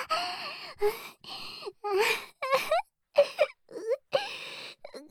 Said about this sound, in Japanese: これは嬉しくて泣いてるんだよ。